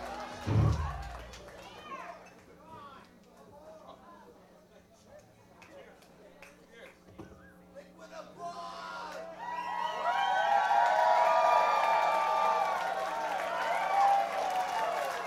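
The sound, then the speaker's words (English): A large audience gives a standing ovation, clapping and cheering, starting as a lower murmur of voices and swelling after several seconds into loud, sustained applause with shouts and whoops. “That's a lot of applause. This is a standing ovation.”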